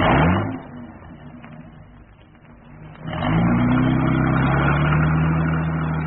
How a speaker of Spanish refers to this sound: Calimán hundió el acelerador y el auto se deslizó rápido por la vereda del jardín. En unos segundos cruzó la reja, desapareciendo en la oscura calle.